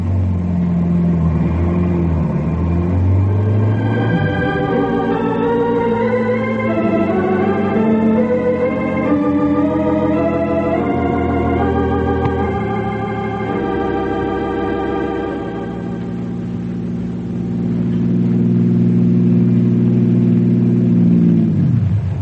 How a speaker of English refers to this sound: Harry drives the car a half mile down the road, turns around, and starts back toward the barricade. Harry watches the speedometer to be sure he's going the same speed that Norman did.